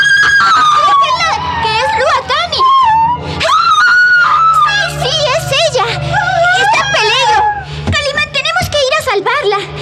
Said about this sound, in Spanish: Y de pronto, un grito de terror retumba en el silencio de la noche.